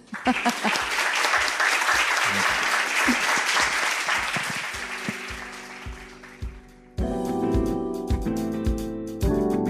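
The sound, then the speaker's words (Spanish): An auditorium audience in a hall claps steadily for the speakers for about seven seconds, the dense applause thinning slightly, then it breaks off abruptly and loud music with sustained tones begins. “Pues solo me queda pedir al auditorio que nos acompaña pues que les deis un aplauso.”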